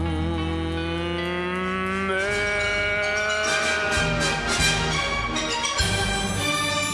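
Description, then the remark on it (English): Cattle moo loudly and continuously, several drawn-out calls overlapping and rising and falling in pitch, with no one speaking. “May you always have cows around.”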